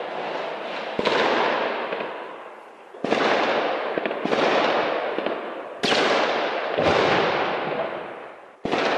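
explosions and gunfire

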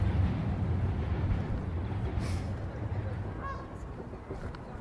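geese honking

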